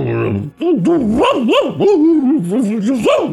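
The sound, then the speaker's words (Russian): A man, pressing a finger tightly against his upper lip, imitates a dog's muffled barking, producing a quick, continuous run of yelping, rising-and-falling bark sounds for about three seconds. “плотно прижал пальцем верхнюю губу и вдруг приглушенно залаял.”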